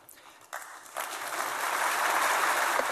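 Applause from an audience of German business people in Berlin after a speech by Greek Prime Minister George Papandreou starts as a few scattered claps, then swells within a second into steady, dense clapping that keeps growing louder, with no voices heard.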